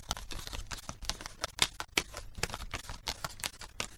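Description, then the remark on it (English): Playing cards being dealt one after another onto a table for a game of Snap, a quick, steady run of soft flicks and slaps, with no voices. “I'll deal the cards.”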